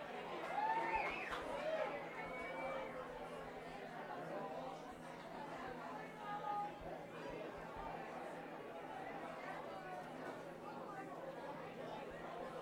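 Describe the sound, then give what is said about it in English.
A steady wash of chatter from a live audience in Echo Park fills the space, many overlapping voices murmuring at a fairly even level with a few brighter exclamations rising out early on, no single voice standing out. “Did anybody ever tell you you're a good-looking crowd?”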